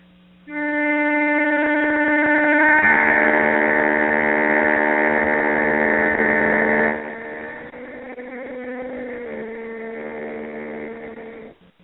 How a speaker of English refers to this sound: And what I teach people to do is how to play harmonics on the pitch pipe. So you play a note on the pitch pipe and then you hum another note at the same time, something like this.